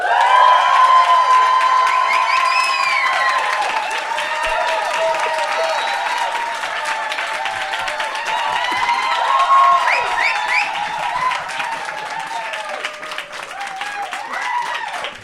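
A live audience at a DWE solidarity party at the Menschmeier applauds and cheers steadily for about fifteen seconds, dense clapping mixed with whoops and raised voices, loud throughout without easing off.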